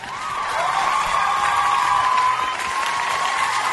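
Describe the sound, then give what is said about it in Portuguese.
An audience applauds steadily for a few seconds, a dense wash of clapping mixed with some cheering voices, fairly loud and even throughout with no speech over it; a round of applause on the radio programme Show dos Esportes for the man at the audio desk. “Uma salva de palmas, Fábio Lentino, que está na mesa de áudio para Racon Consórcios.”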